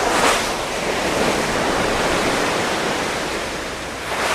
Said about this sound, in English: So I'm able to head outside as huge waves crash against the side of the ship and send white froth into the air.